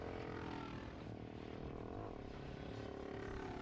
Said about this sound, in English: This is a guy on a motorcycle. Why is he just got a moped?